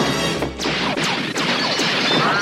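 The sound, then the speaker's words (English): Pistol shots ring out in a quick, uneven burst, about five sharp, loud cracks, each trailing off in a brief echoing tail, as Tackleberry opens a door and fires his pistol into a room, hitting a vending machine. No one speaks. “He opens the door and shoots into the room.”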